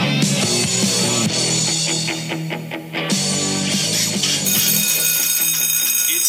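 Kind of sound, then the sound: signal or alarm, school bell ringing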